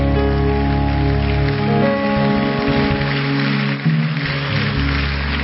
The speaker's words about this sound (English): Clap your hands. You know, you're clapping. It's not for me. Unto the Lord.